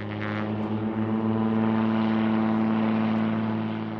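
A seaplane's propeller engine drones steadily at full power, a loud low hum with strong harmonic bands, swelling slightly as it takes off from Vancouver Harbor over barges and freighters, heading toward the mountains.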